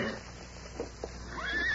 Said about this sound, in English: There's a horse beyond that rock.